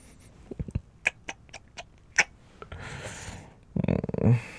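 A sick person sniffles: a run of short, wet, clicky snuffles gives way to a longer breathy sniff, then a brief strained, whimpering vocal noise. Nobody speaks.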